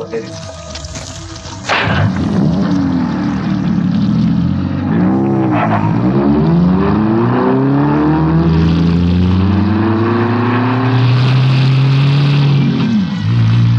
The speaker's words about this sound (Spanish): Las dos patrullas cruzan la reja central, internándose por un gran patio de forma rectangular.